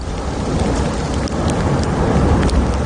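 Ash and small stones from the La Palma volcano fall in a dense, steady patter, much like heavy rain, with scattered sharper ticks and a deep rumbling of the volcano itself underneath, on the tenth consecutive day of ashfall covering everything. No one speaks.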